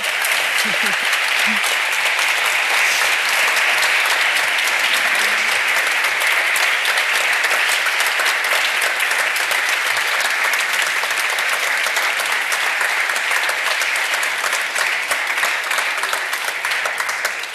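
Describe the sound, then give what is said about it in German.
Sustained applause from a sizable audience, dense and steady clapping that stays loud throughout, with a few faint voices buried in the noise. “Bitte einmal einen Applaus.”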